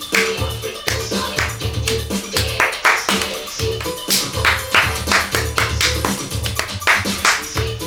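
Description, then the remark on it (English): A loud, steady clapping track, sharp handclaps repeating in a brisk rhythm over a low, droning bass pattern, with no talking. “That clapping is so unpleasing to the ear.”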